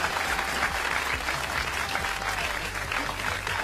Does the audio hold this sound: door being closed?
no